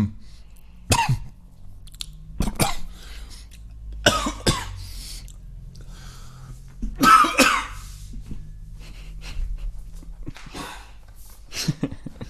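A loud coughing fit: several harsh, sharp coughs in irregular bursts, with a throat-clearing rasp in the middle and short pauses between spasms, no talking.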